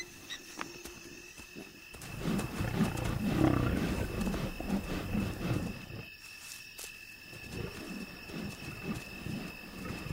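Lions roar in deep, rumbling bursts, a long swelling series followed by shorter grunting pulses, loud and low-pitched with no voices over them.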